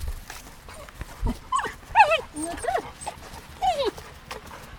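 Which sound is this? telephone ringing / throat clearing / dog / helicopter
dog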